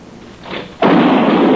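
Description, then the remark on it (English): A single sharp gunshot cracks out suddenly after a stretch of quiet hiss, and a loud, dense wash of noise carries on right behind it to the end. “Then you count to yourself one, two, three, and then fire.”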